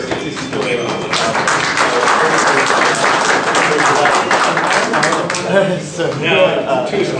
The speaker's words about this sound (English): Well, he needs another round of applause.